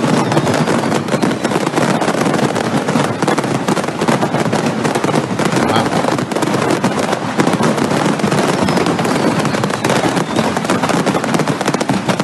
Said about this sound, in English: And you would think that, you know, they would have certain protocols in place to protect a fireworks factory. No, it needed 400 firefighters to put it out. But before they got there, it sounded like this.